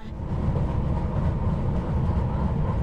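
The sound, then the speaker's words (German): A subway train rumbles steadily along the rails, a loud continuous low roar with faint rhythmic clatter, heard from inside the car with no voices. “Neulich in der U-Bahn.”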